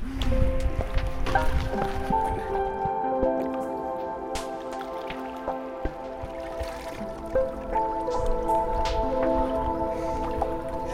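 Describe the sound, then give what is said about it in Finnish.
Continuous sloshing and splashing of water as people wade in, with squelchy steps and drips over a steady outdoor background hum. “No eiköhän me lähdetä sitten tuonne veden syleilyyn.”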